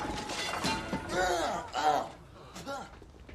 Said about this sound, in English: Red 2 crashes the Burgermobile through the wall of Good Burger.